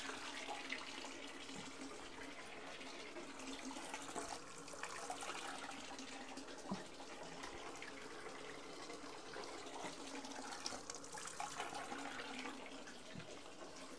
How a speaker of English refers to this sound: Don't drink the water, sweetie. Okay, rinsing off the toys.